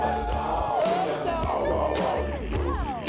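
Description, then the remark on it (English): A large stadium crowd at a baseball game cheers for the contestants of a dog contest, whooping in a steady, loud roar, with scattered shouts and high whistles rising above the dense wash of voices for a few seconds. “Let's give it up for our contestants.”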